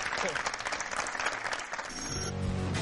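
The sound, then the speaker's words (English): A crowd on the Totally Patriots show applauds Jimmy G in a dense, steady wash of clapping that holds for a few seconds; toward the end a low sustained musical tone enters beneath the fading applause. “Guys, let's give Jimmy G one more round of applause.”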